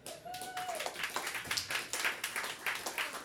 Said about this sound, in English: So be sure and applaud loudly for Misha.